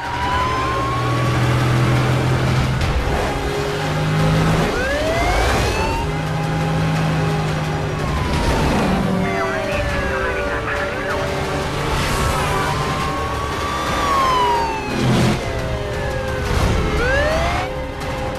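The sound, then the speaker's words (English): Several police car sirens wail and sweep up and down in overlapping cycles as they chase a stolen silver Charger, its engine revving and roaring underneath as it speeds through heavy traffic in Las Vegas, a loud, busy chase with tires and traffic noise throughout. “Cadillac notes the posse of police cars now on his tail and guns the stolen vehicle through heavy”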